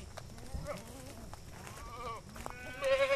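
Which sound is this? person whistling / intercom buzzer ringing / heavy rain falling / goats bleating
goats bleating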